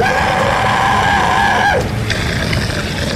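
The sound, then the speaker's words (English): As lights flash on after a generator rattles to life, a creature lets out a loud, drawn-out shriek of pain that slides downward in pitch, then breaks into a second shrill, strained cry, with no talking. “The creature roared and screamed up in pain.”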